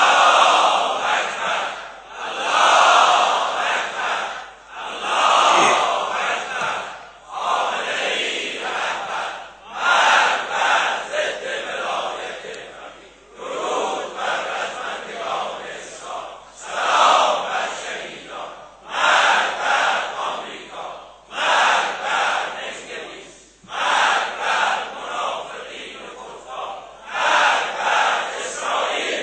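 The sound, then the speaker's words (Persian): A large crowd chants takbir (Allahu Akbar) in unison during Basij Week, loud rhythmic shouted phrases repeating in regular bursts with brief gaps between them, sustained for the whole stretch. “خب اگر این آمادگی در آخرین روزهای یک مذاکره سنگین در شما هست و روحیه جهاد و مقاومت در هفته بسیج هست که قطعا هست، یک تکبیر غرایی بفرمایید.”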